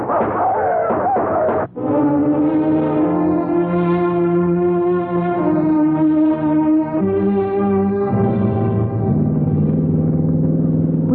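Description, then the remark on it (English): A car engine revs hard and pulls away, its droning pitch stepping up as it accelerates. It stays loud throughout, with a brief dip near the start. “He's evidently trying to get to our car.”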